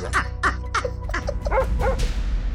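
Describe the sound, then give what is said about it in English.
A dog barks rapidly and repeatedly, about seven sharp barks in a steady quick rhythm, with a low rumbling background underneath and no talking. “Black people look like shadows to them, so it can be scary, so they start barking.”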